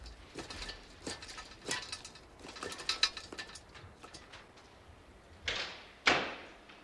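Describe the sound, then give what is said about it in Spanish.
Faint shuffling and small clicks give way to an office door swinging shut, landing with two firm thuds near the end; no one speaks. “David se encierra en su despacho.”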